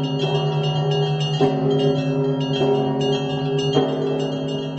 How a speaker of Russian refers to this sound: Так звучит исторический ансамбль колоколов Свято-Данилова монастыря. И теперь этот звон станет неотъемлемой частью московского звукового ландшафта.